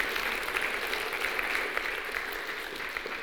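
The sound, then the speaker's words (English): An audience at First Baptist Church of Mountain Grove bursts into sustained applause for God after the year in review, a dense, steady wash of many hands clapping at once, fairly loud and even throughout without any talking. “Let's give God applause again.”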